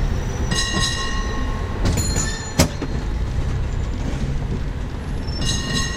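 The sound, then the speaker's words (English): A San Francisco cable car rumbles steadily along its rails, loud, with high metallic squeals and a few sharp clanks breaking through the continuous low grinding roll. “They actually call them their cable cars, and you've just got to get on a cable car.”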